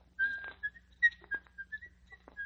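A man whistles a short, wandering tune, a series of clear notes rising and falling at an unhurried pace, soft, with a low hum underneath.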